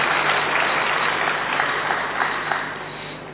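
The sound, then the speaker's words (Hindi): An audience claps continuously at the speaker's request as specialities of Gujarat are listed. It is a dense, steady wash of many hands that stays loud throughout and tapers only slightly toward the end, with no talking over it. “आप सुनते जाना और हर विशेषता पर, अपनी विशेषता पर आपको क्या करना होगा, ताली बजानी होगी।”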